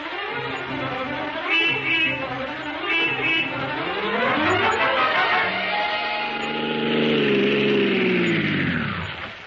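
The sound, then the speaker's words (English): A taxi engine runs loud during a ride to the Columbia Broadcasting Studios, its pitch rising as it revs up and then sliding down as it slows, with some horn-like honks mixed in early on. “Sergeant, get a taxi.”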